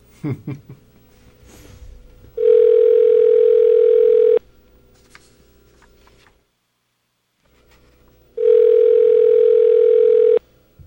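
A telephone line rings twice as an outgoing call is dialed, each ring a loud, steady electronic tone lasting about two seconds, separated by a long quiet pause with faint background hiss.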